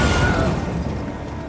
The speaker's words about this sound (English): The two men watch, despairing, as the set crashes to the ground before what's left of it sinks into the muddy sand. Today was meant to be the first days of filming on a new production called Star Wars.